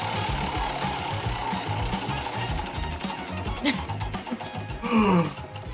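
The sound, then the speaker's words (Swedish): A prize wheel spins on a Mix Megapol radio show with a rapid, steady ratcheting clatter of ticks that gradually slows and spreads out toward the end, while a couple of brief voices exclaim over it. “Där drar jag då på hjulet och då kan det komma upp vad som helst.”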